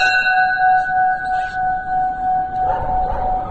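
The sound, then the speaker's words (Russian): A tall bell of non-canonical shape, elongated upward, rings with a sustained, resonant tone, its layered metallic overtones humming steadily and loudly throughout, with no voices present. “Или высокий колокол. Это тот колокол, который имеет не каноническую форму. Он вытянут вверх.”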